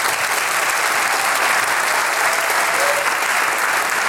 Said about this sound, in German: Bitte schön, einen kräftigen Applaus.